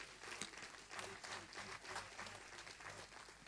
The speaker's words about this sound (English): Another clap offering for the Lord.